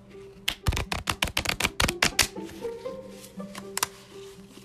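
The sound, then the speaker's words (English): A fresh, crisp blue Bicycle deck of playing cards is shuffled, a quick burst of crisp, rapid snapping clicks for a couple of seconds, then softer scattered rustling and taps as the cards settle. “Since new show jitters, why don't we do a good shuffle?”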